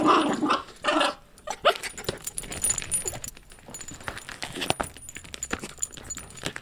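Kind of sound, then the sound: animal, dog growling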